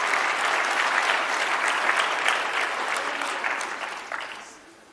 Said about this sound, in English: Let's also give them a round of applause.